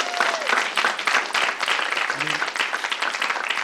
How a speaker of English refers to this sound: Yeah, we have to clap for that. Are you kidding me?